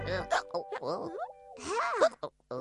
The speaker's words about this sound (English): has got hiccups. Oh dear! How do you get rid of hiccups?